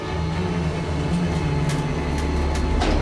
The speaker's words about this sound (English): He checks his watch as the lift car arrives at his floor.